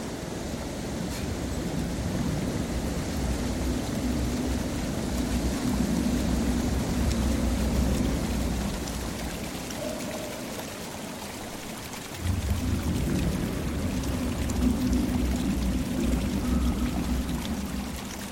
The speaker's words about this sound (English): The river.